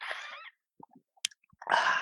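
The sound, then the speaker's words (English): Someone takes a sip of water: a breathy slurp, a few small wet gulping clicks in near silence, then a loud exhale. No one speaks. “Gonna take a sip of water before doing the standard intro.”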